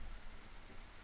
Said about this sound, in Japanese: ものすごい雨です。